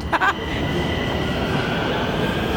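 A metro train rumbles steadily through a station, with a sustained high whine of motors and wheels over the low roar, after a couple of brief clanks at the start. No one speaks.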